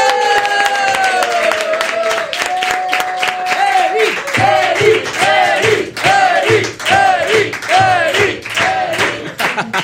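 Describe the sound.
An audience claps steadily and loudly for about ten seconds, with cheering voices and a rhythmic musical backing that gets a pulsing bass beat partway through.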